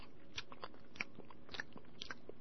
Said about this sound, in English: Sound like a cow chewing its cud.